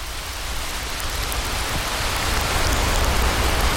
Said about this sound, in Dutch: Het regent.